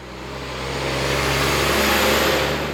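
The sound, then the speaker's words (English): A heavy truck carrying half of a drilling rig roars past, its engine rumble and tire noise swelling to a loud, steady roar over a few seconds. No one speaks. “A truck roars by. It's carrying half of the first drilling rig.”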